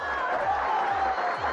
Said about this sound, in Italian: Sì, abbiamo anche gli applausi in sottofondo, non lo sapevi? No. Abbiamo anche gli applausi. Ma facevano parte della... della canzone, assolutamente.